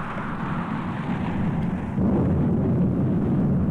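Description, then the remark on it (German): A deep, continuous rumble of thunder rolls for several seconds, growing noticeably louder and heavier about halfway through, with no voices present. “Es donnert und die Häute kriechen herum, als wären sie lebendig.”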